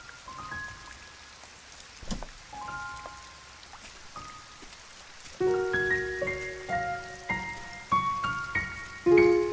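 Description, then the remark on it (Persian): Light rain patters steadily throughout under a cloudy sky, with one faint low rumble of thunder early on, while soft, bell-like musical notes ring out over the rain and grow louder toward the end. “صدای خفیف رعد، آسمان ابری، شاید باران ببارد.”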